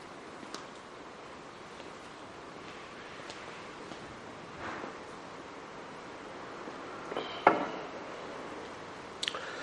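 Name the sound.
flowing water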